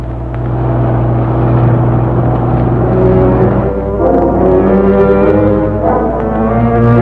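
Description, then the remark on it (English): A Ferrari car engine drones loudly and steadily, its deep harmonic hum shifting slightly in pitch as it revs, with no voices throughout. “Our guide with the Ferrari. There's a car.”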